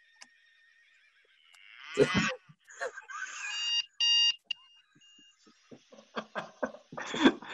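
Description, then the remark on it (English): A dolphin sound effect played in response to the movie Cliffhanger: shrill, squeaky whistles and chirps with a brief steady tone, then a burst of rapid clicking chatter, fairly loud with no voices. “I guess Cliffhanger really deserved the dolphin.”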